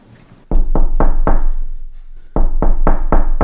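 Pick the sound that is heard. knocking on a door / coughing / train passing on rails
knocking on a door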